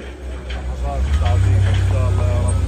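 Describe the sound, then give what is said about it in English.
The heavy diesel engines of earth movers rumble, swelling into a steady, throbbing growl as they grind through piles of rubble and waste in Gaza City, loading it onto trucks, while faint voices carry in the background. “Across Gaza City, earth movers grind through piles of waste, loading it onto trucks bound for a new landfill in the south.”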